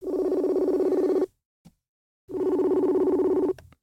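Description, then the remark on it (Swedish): Two long bursts of a steady, buzzing phone ringback tone separated by a second of silence, heard clearly and alone as an outgoing call to the speaker's mother waits to be answered. “Eller ska jag ringa upp henne? Jag ringer prata? Upp henne, det blir jättekul. Vi kan testa och se om hon vill svara.”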